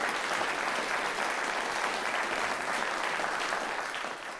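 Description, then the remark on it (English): Sustained audience applause after a live piano performance by a pianist, a dense even wash of many hands clapping at steady loudness, tapering slightly at the end. No music or voices are heard. “Forgot about the applause there.”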